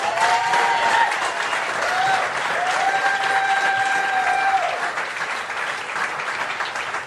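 A large crowd claps steadily and loudly throughout, with sustained whistles and cheering cutting through the dense wash of applause.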